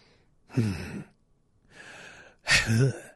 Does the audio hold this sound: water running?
no